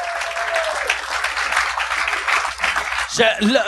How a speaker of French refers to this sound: Mais merci d'avoir été là. Puis je vais. Merci, applaudissez-le.